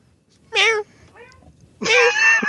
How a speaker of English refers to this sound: Cat.